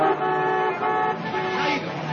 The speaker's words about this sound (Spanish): Los policías se detienen en un atasco.